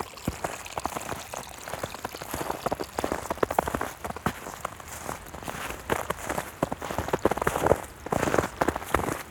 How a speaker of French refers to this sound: La neige craque au milieu des clapotis. Est-ce l'hiver? Est-ce le printemps?